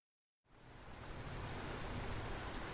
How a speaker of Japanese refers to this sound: 雨降ってるのに、傘は？